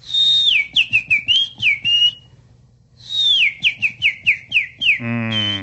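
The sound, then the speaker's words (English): A man whistles an imitation of birdsong in a video: two bursts of quick, sliding high chirps and trills separated by a short pause, clear, ending on a buzzy, harmonic note. “He sent us this video of bird sounds, but they are man-made bird sounds, and I have a lot of feelings about this video.”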